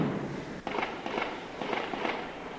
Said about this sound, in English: Soon, gunfire and explosions began to echo across the rooftops. Shooting like this has been going on all morning. And occasional explosions also.